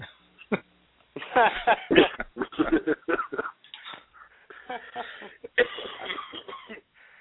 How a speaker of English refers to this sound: Now, see, someone else is coughing, and it's not me.